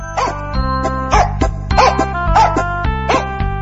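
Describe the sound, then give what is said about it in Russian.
A dog barks about six times in a steady, evenly spaced series of sharp, fairly loud yaps over a sustained musical drone, with no talking. “Вот села она, положила мешок на землю, и только было принялась петь, как вдруг выскочила из мешка хозяйская собака.”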